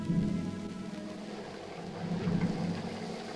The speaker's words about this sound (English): A terrific thunderstorm is raging.